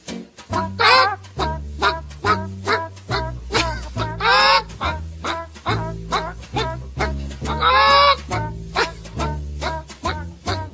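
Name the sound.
hens clucking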